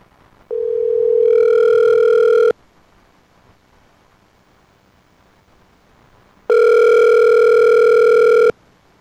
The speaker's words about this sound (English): Hello? Well, we got a dial tone.